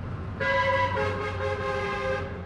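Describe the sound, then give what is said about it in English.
A heavy coal truck's horn blares in one sustained, loud blast lasting nearly two seconds, over the deep rumble of coal-transporting trucks thundering past a house. “Trucks transporting coal thunder past her house 24 hours a day.”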